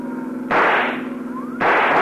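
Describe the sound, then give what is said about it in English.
Two loud rifle shots crack about a second apart, each with a broad decaying blast, over the steady low drone of a running car engine. They are fired from a pursuing police car at a fleeing car's tire. “See if you can use that rifle”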